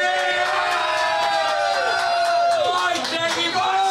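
A live show audience cheers and whoops loudly as a guest is introduced, with shouts and high voices layered over steady clapping, sustained at full volume for several seconds without any single clear speaker.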